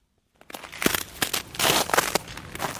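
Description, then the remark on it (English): Footsteps crunch on packed, icy snow in Kyiv, Ukraine, at minus 17 degrees, about half a dozen crisp, gritty steps in a steady walking rhythm with no voices. “Listen to the crunch of that snow beneath my feet. This is like packed ice.”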